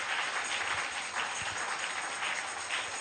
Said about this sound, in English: Clap these hands. Give God the glory.